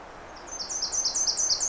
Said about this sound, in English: And that's the magnolia. Of course, you're hearing chipping sparrows and the magnolia and the Nashville.